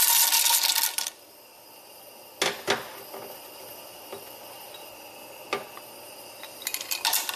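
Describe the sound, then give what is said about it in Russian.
Small hard pieces of measured cocoa butter rattle and clatter in a quick pour into a metal pot. The pot sits on a rack over a pot of water so the butter can melt. A few scattered clinks and taps against the metal follow, with no talking. “Вот у меня стоит кастрюля, в ней просто-напросто налита вода, ничего такого, и на решеточке стоит другая кастрюлька, в которую мы сейчас засыпем вот это отмеренное количество масла какао.”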